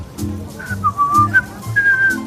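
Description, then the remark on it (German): Someone slowly walking past whistles a short, wavering tune of several drawn-out notes, clear and fairly close, over a low droning background hum. “Also pfeift scheinbar jemand.”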